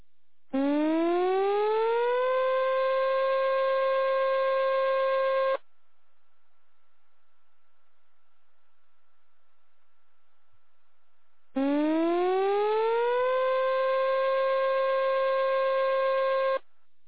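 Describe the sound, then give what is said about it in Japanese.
A tsunami warning siren, sounded as a tsunami warning is issued and people near the coast are told to evacuate to high ground, wails twice, each blast rising in pitch then holding steady for about five seconds, with a long silent pause between. Loud, with no voices. “津波警報が発表されました。海岸付近の方は高台に避難してください。”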